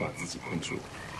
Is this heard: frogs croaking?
yes